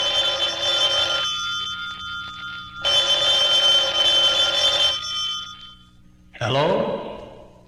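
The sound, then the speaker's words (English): A telephone rings loudly in two long bursts separated by a short pause, followed by a brief, sudden sweeping sound at the end. “Would somebody answer the phone, please?”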